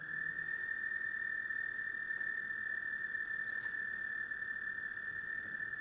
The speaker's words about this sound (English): That's the American toad. Long, long trill.